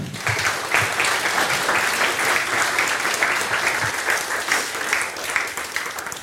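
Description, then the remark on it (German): Sustained audience applause at FrostCon welcoming a speaker for a talk on funding free and open-source software in public administration, a dense steady wash of many hands clapping at a fairly loud, even level for about six seconds, with no voices standing out. “Bitte einen ganz großen Applaus für Marco.”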